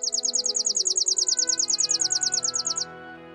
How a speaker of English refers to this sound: Lovely, isn't it? That's a chipping sparrow, a songbird found almost everywhere across the states. The clip you heard isn't actually a courtship song, as you might have guessed from the name of the podcast.